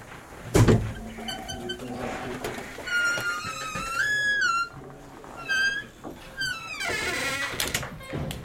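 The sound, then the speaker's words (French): The large, heavy iron door of the Lanzani furniture rental premises in the Faubourg Saint-Antoine, 11th arrondissement of Paris, clanks loudly at the start, then its hinges let out several long, wavering metallic squeals as it swings, with no one speaking. “On passe la grande porte de fer et on grimpe jusqu'au premier étage, dans le bureau du patron.”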